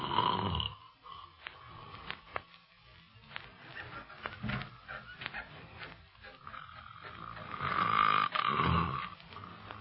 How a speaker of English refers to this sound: The way he snores, you should be glad he's in another room.